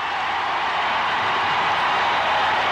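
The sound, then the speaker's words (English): A huge baseball stadium crowd roars in a steady, unbroken wall of noise while doing the wave around all three tiers, loud and even throughout, with no single voice standing out. “This crowd really reacting.”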